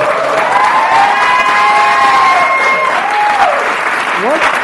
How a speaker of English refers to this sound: I mean, a lot of these are your students. Yeah, and they're applauding you for for being a teacher.